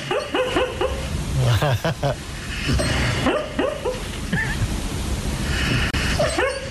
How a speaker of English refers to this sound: Our big dog used to do that. Really? Now, what's the dog laughing at? The dog is having a funny dream. Adorable. That's like a German Shepherd or something like that, is it?